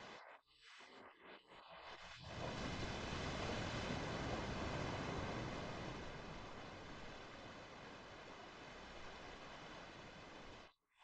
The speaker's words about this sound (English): The sound of the ocean releases your muscles and makes every cell in your body float on a great ocean.